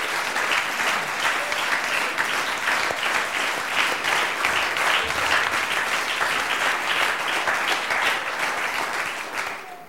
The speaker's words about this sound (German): Ich möchte einfach mal kurz bitten, dass alle Ranger-Mitarbeiter aufstehen. Und ich denke, das ist einfach auch ein besonderer Applaus wert für die Arbeit, die sie da tun.